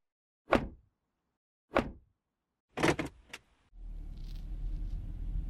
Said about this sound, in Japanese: 一緒にまた車に乗り込んだ彼女に